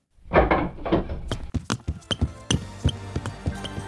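A door bursts open with a heavy, rattling crash as Inspector Javert appears with 15 policemen, followed by a quick run of sharp thuds and clatters, loud, with no voices.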